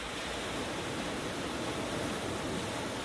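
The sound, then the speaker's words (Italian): A steady, continuous rush of sea water, like surf, with an even hiss and no distinct breaking waves, at a moderate level and without any voices. “Questa è l'acqua del mare.”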